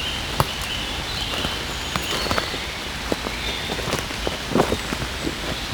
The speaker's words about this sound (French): Quelques gouttes de pluie.